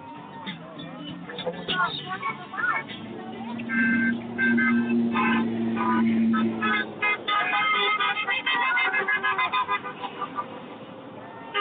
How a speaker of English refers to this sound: Find the candy truck